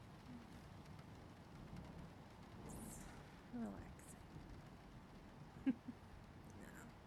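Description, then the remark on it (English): A steady, muffled wash of storm rain hisses continuously at low volume as wind blows outside, with a few brief taps and knocks near the end as rain pelts the windows. “You know, being here, warm and cuddled up, and listening to the storm outside. Outside. All wild and raging. The wind blowing. The rain pelting the windows.”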